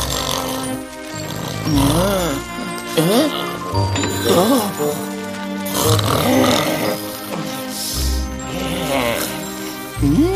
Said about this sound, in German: Während Jojo versucht, trotz Doc Crocs Schnarchen in den Schlaf zu finden, nähert sich der Prinz seinem Pferd.